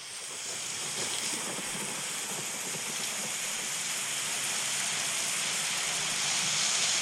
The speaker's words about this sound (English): Oh, yeah. That's lovely. That's a rainstorm for you. I love that.